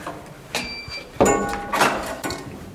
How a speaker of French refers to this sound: On va passer un sas. Oui, on passe une porte.